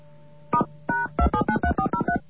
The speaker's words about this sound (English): They give you your phone number in touch tone.